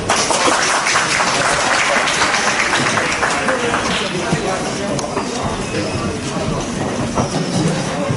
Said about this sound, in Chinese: 谢谢各位热情洋溢的掌声。 是， 当然了，要是再热烈一点就更好了。